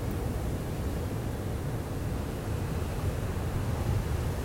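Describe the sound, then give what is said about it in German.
A steady, rumbling roar of Atlantic Ocean surf mixed with wind, heavy in the low end and unbroken throughout, with no voices, recorded on the seashore against a black lava rock as waves wash in. “Ich sitze hier am Meer, angelehnt an einen schwarzen Lavafelsen und sitze auf der Rückseite, damit der Wind nicht zu stark bläst und damit das Geräusch nicht allzu laut ist.”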